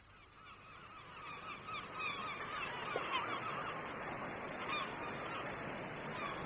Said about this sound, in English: And there's so many more birds.